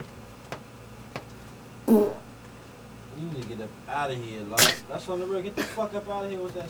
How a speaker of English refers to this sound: Ah, dude, I got a fart